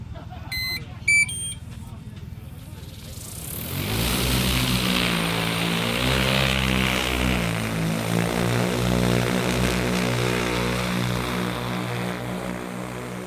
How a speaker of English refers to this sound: we're here today at Central District Field Days, and we've got our drones and robots on display. So we've got our P100 spray drone running.